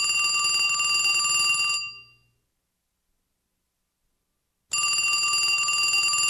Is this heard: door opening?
no